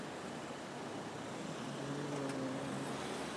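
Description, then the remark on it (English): A steady wash of road traffic noise from snarled-up traffic that cannot move, with a low engine hum rising in the second half as if cars idle. No one speaks. “Traffic is so snarled up that it can't move.”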